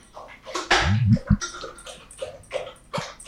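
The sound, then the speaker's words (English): Wet slurping of a drink with ice, a loud gulping burst near the start followed by several shorter sips and splashy sucking sounds in an irregular rhythm. “Hey, that's what my dog sounds like drinking.”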